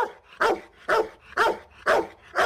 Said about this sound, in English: All right, so the dog is barking. You know what that means, right?